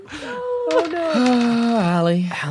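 A wolf howls loudly in long, wavering tones that slide up and down in pitch, with one drawn-out cry lasting a couple of seconds.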